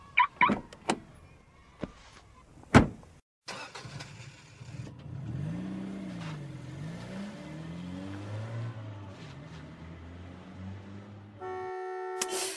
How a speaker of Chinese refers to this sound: 哎呦，怎么堵成这样啊？快点动起来呀